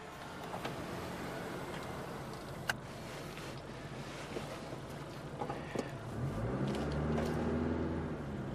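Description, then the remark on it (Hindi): Steady low rumble of vehicle engines idling in a slow traffic jam caused by an accident, with one engine revving louder and rising in pitch toward the end. No voices. “अभी सूरतहाल वाज़े नहीं है, प्लीज आप आगे बढ़ें, ट्रैफिक जाम हो रही है।”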